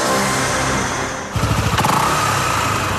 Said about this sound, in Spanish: Nueva Honda PCX160 ABS, una motocicleta con tecnología japonesa de última generación que llega al país para imponer un nuevo movimiento en la ciudad.